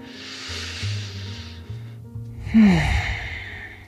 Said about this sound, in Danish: Sidste fulde vejrtrækning, både indånding og udånding her i planken.